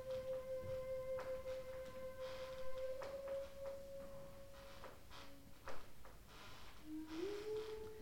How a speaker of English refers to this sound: Assuming that squeaky is a floorboard.